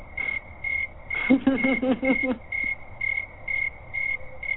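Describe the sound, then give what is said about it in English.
A cricket chirping sound effect: a cricket chirps in a steady, evenly spaced rhythm from start to finish, moderately loud, with a brief burst of lower, rapidly pulsing sound joining in near the middle. “I will play. Where's my cricket?”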